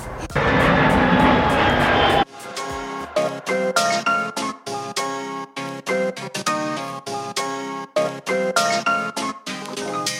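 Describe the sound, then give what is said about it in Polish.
A loud airplane engine roars for about two seconds, then cuts off abruptly, followed by quieter, choppy voice-like sounds with frequent pauses. “Jest, złapaliśmy samolot, hurra!”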